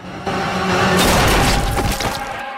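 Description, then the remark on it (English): A single M1 carbine gunshot, fired by Charlie at Chihuahua moving through a crowd, cracks out over a loud, steady wash of noise, followed by a harsh, crackling tail that fades over about a second. “He licks his finger and wets the sight as he calmly traces Chihuahua's path through the crowd, then squeezes the trigger.”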